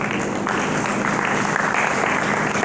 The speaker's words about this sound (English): Hallelujah. Hallelujah. Somebody give the Lord a hand clap.